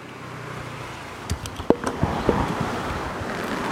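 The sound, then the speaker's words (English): Steady, dense hiss of hard rain falling outdoors, with a handful of sharp taps and clicks partway through as drops strike an umbrella overhead. “oh geez, it's actually raining kind of hard. Let me get my umbrella.”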